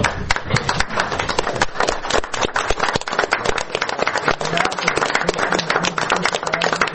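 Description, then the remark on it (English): An audience applauds steadily to honor a veteran for his military service, a dense crowd of overlapping claps that stays loud and sustained for several seconds without pausing. “And applaud him for his service.”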